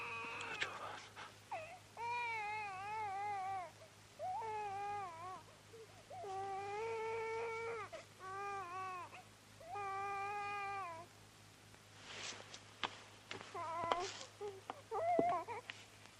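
A baby cries in a series of drawn-out, wavering wails, about five bursts separated by short breaths, moderately loud, followed by fainter broken sobs and noises near the end.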